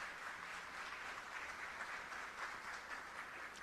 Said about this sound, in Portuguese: Senhoras e senhores, ao violão, pedimos uma calorosa salva de palmas ao grande maestro multi-instrumentista,